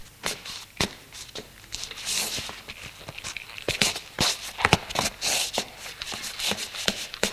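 Footsteps of a man who gets up and walks out of the room, a dozen or so sharp, uneven steps, mixed with soft rustling and shuffling between them.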